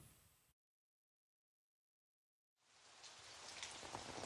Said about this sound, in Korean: 밖에 비 오나 봐. 얼른 나가자. 나 비 좋아하는데. 비 맞는 거.